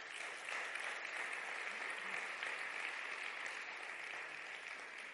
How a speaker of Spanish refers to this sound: ¿Cuántos lo han entendido? ¿Cuántos lo han entendido? Dar un aplauso al rey.